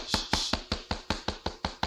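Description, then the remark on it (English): Someone raps on a door in a quick, steady run of about nine sharp knocks, fairly loud, with no voices. “Who is that knocking?”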